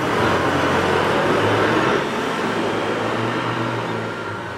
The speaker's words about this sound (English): It's actually kind of appropriate that the second I said it's a cool vibe and you hear the loud motorcycles, vroom vroom